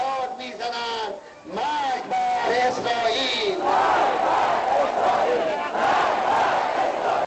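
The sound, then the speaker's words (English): A large crowd in Iran, with placards and clenched fists, chants the slogan 'death to Israel' in unison during a speech by Iranian President Mahmoud Ahmadinejad, loud and rhythmic, the voices rising in pitched, sustained shouts that swell into a dense roar of many people. “Here's a speech being given by Iranian President Mahmoud Ahmadinejad, and he is calling for people with placards in their hands and clenched fists, shouting out a certain slogan.”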